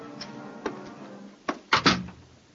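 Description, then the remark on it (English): A few sharp clicks as a key is turned in the lock of room 201's door, then a louder clunk and rattle as the door is pulled open, with no voices. “You turn the key in the lock, and you open the door.”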